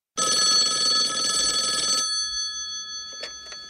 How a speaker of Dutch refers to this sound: En even later krijgen ze een telefoontje van de Bond.